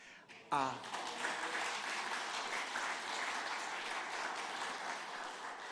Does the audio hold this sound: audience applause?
yes